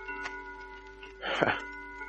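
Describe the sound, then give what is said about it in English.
A clock somewhere in a house chimes, its sustained bell tones ringing quietly and steadily, with a brief, rough burst of noise cutting in midway through. “And just as a clock started chiming somewhere in the house, the living room door opened.”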